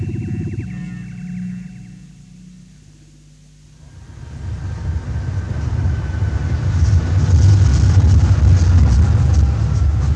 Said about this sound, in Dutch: Je weet dat ik het land heb aan die ondergrondse treinstellen.